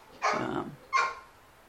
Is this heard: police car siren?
no